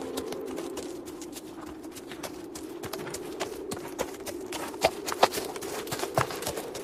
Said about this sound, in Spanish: Horas después, el comandante y mi bisabuelo despertaron con el trote del caballo.